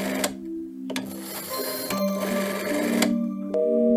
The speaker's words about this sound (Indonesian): Maka di dalam bilik sempit itu, sembari menimang-nimang korek api yang dikeluarkan dari dalam sakunya, lelaki berwajah keras itu memutar nomor telepon.